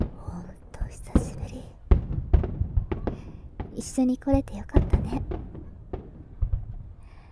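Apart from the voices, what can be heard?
fireworks exploding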